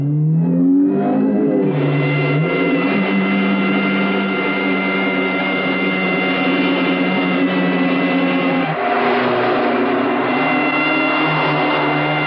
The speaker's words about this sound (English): The driver weaves along the narrow street and up on the sidewalk, dodging parked cars. He rejoins the main flow of traffic with the police car on his tail, then darts across three lanes of traffic to make a turn. The police car stays with him.